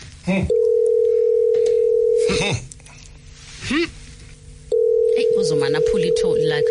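A phone line rings out with a steady electronic ringback tone: two long, loud rings about two seconds each, separated by a pause with faint background sounds.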